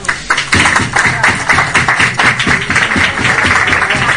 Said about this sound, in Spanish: Pues también aplausos para el vecino por parte de médicos, médicas. Ha sido tan emotivo.